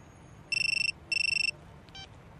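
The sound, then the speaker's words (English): A mobile phone in someone's pocket in the street rings with two short, rapidly trilling electronic bursts separated by a brief pause, clear against a quiet background hiss, followed by a faint brief beep. “No, it's ringing in the street, and the telephone is in someone's pocket. It is, of course, a mobile phone.”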